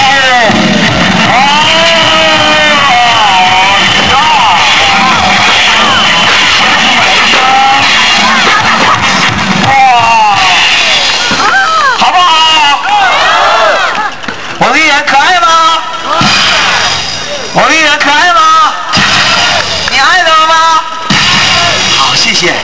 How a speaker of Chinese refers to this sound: 向国旗飘扬的地方，为我们胜利国旗的一群孩子们，一群英雄们，呐喊声、欢呼声、音乐声 ，Come on！